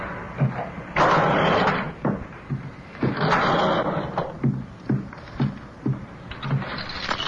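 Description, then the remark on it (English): A door is pushed shut with a couple of heavy, rattling thuds, followed by a quick run of sharp clicks and knocks as it is locked. “They'll have to break the door down to get me out.”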